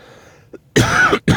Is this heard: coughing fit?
yes